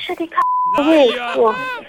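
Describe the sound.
A single steady, mid-pitched phone keypad beep from a pressed key, lasting about a third of a second, sounds between bursts of talk, with a voice speaking right before it and again after.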